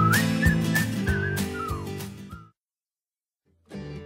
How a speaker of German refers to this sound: Super, und pfeifen.